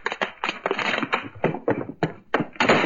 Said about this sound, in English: Spider just got through knocking the bottle of chemical serum to the floor.